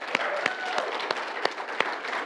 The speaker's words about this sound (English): Let's give Gage a round of applause. He did pretty amazing.